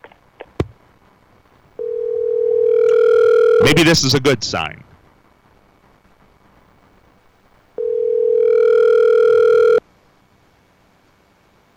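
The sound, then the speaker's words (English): Two long steady ringback tones of an outgoing phone call placed on the WGH Talk radio show, each about two seconds, separated by a pause in which a person speaks briefly; a click precedes the first ring. “Oh, it's ringing this morning.”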